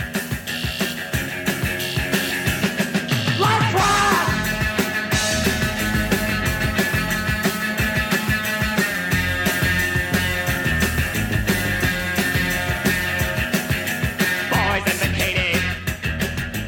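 A loud, frenzied rock rave-up closes a track without pause, with pounding drums, a slamming guitar solo and wild high-pitched screams bursting over the full band.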